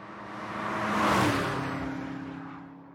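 A single car drives past on a road, its engine hum swelling to a peak as it goes by and then fading steadily away. No one speaks.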